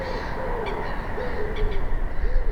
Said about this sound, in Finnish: Ikkunan alla möykkäviä puluja.